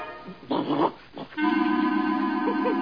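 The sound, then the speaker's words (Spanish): A dog growls while tugging at a hat, starting with a couple of short snarling bursts before settling into a steady, sustained rumbling growl that runs to the end, with no one speaking. “¡Pongo! Perro loco, ven acá. Dame mi sombrero.”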